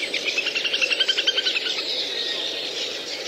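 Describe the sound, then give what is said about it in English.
A little grebe's whinnying call, a fast, high trill of rapid pulses that rises, then fades after about a second and a half, over a steady hiss of outdoor wetland ambience. “Little grebe that you could hear then, so that sort of whinnying call, that was a little grebe.”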